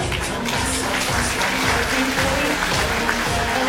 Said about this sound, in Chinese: 那首先我们先要一个热情的掌声来开启婚礼的序曲好吗？